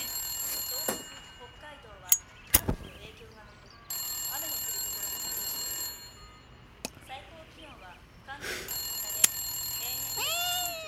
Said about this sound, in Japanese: 分かっているさ、電話が鳴っていることぐらい。こっちから飛びつく必要はない。